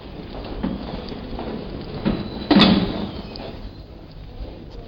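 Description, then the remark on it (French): Metro station entrance doors swing and bang shut with a heavy thud midway, over a steady background murmur of station noise and a few softer knocks. “Voici, oh, non pas une symphonie, mais une toute petite suite pour petit bruit du métro. Les portes d'entrée.”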